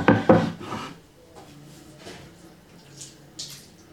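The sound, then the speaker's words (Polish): A knife dices chicken breast into cubes on a cutting board: two sharp wooden knocks open, followed by softer, irregular chopping taps and faint scraping, with no voices. “Teraz bierzemy deskę do krojenia i nóż. Zaczynam kroić w kostkę.”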